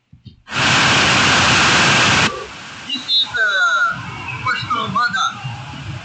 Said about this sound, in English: This is one of the rivers that we crossed.